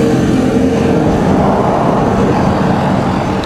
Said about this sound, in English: Okay, I had to pause this in the middle of the story there because I was on the bridge, the drawbridge, and the traffic was about 2 feet away from me, and it was just way too noisy. You can almost hear it overhead now. I'm directly under the bridge,